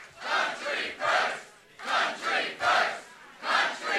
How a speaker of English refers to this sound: Huntsman was interrupted several times with "Country First," the chant that ignited his campaign this past weekend.